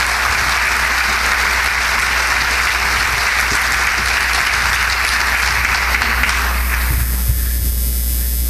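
A crowd applauds steadily in a dense wash of clapping for about seven seconds at a campaign event for Lieutenant Governor of New Mexico, then it cuts off abruptly, leaving a low electrical hum and faint background noise.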